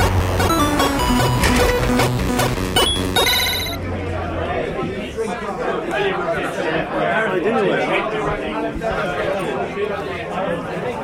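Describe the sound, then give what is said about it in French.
Loud, dense crowd chatter fills a packed pub, many overlapping voices merging into a constant din. A bright electronic ringing sounds over it for the first few seconds, then stops. “Je m'entends pas, mais bon, voilà, nous on est dans le pub et c'est très très bruyant.”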